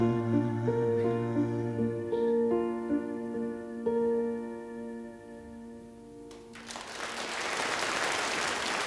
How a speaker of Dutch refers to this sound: Welverdiend applaus. Volgens mij was dat toen in Veendam, waar dit ooit is, in 86 is opgenomen.